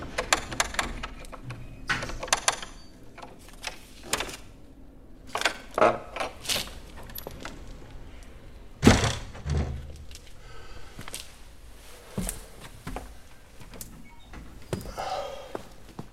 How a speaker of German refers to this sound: Er nahm seinen Dietrich und in ein paar Sekunden hatte er die Tür geöffnet.